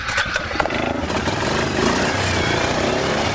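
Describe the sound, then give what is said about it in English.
The engine of a brand-new Fire Engine Red two-seat ATV revs loudly as Berlin mayor Bob Danderson revs it at Jericho Mountain State Park on a freezing day, a steady throaty rumble with gritty roar that holds for a few seconds without easing off. No one speaks. “Danderson, silver-haired and blue-eyed, revs up the engine on his brand-new Fire Engine Red two-man ATV.”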